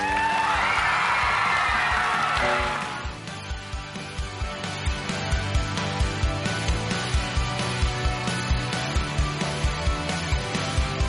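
A loud burst of crowd cheering and applause for about two seconds, then it drops away as music with a steady, punchy beat takes over for the rest.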